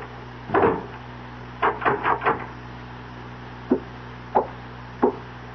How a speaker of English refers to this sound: Turn the key in the door after I leave. You'll sleep sounder.